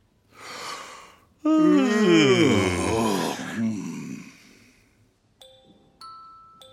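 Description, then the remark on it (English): A breathy inhale swells into a long, loud, drawn-out yawn whose voiced pitch slides downward before trailing off, followed by two short, bright chime tones. “When you yawn, it makes me want to yawn, too.”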